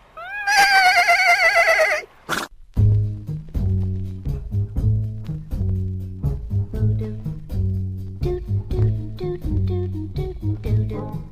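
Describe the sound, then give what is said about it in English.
A loud horse whinny from cavalry horses being saddled by soldiers for a march rises and quavers for about two seconds, then a steady, bouncy march-like tune with a repeating bass pattern plays on alone. “Watch those hippity-high-stepping stallions do their stuff.”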